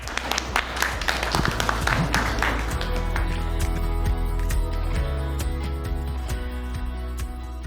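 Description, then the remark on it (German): Audience applause: a dense burst of many hands clapping that thins over several seconds into scattered, irregular claps, with a steady low humming tone underneath. “Jetzt war nochmal eine Ansage, oder? Applaus!”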